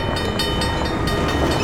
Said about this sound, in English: The delivery truck bumped across a railroad track.